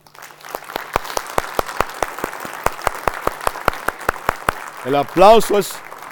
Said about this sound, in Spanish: El aplauso es para Cristo, ¿verdad? Porque si digo para mí es peligroso. No, es para Cristo.